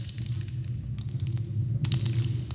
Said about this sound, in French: On dirait une pluie, mais on n'est pas mouillé. On dirait une pluie informatique. Radioactive. Regarde, il y a des bugs dedans.